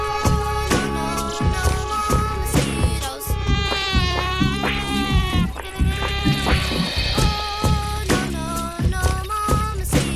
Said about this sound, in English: No, I don't think so. It was the mosquitoes. Hello? And the problems have never stopped.